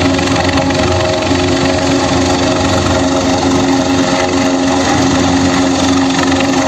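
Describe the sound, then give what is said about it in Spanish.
A rescue helicopter in A Coruña, during a search and rescue operation, gives a loud, steady engine roar that drones on without a break, a constant mechanical whine with a low humming tone running underneath. No one speaks. “Y en A Coruña, en las últimas horas, sonaba el helicóptero de rescate.”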